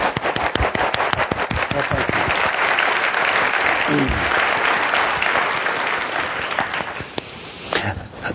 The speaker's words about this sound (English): Well, why don't we applaud again, because that was remarkable.